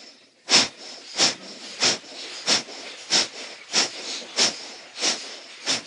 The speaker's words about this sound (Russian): Итак, приступаем к дыханию капалабхати.